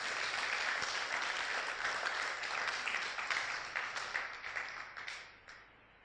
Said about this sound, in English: Oh, somebody must be clapping, clapping, clapping.